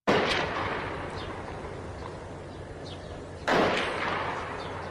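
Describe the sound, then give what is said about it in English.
Two heavy booming blasts, one at the start and another partway through, ring out over a constant rumbling, crackling din of gunfire and shelling from street fighting in Daraa, Syria, with no voices. “If you go online and actually Google Syria, you're going to get this YouTube video, the audio of which you're hearing right there. That's fighting from Daraa.”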